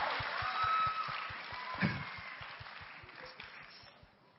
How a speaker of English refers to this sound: So let's clap, give a big hand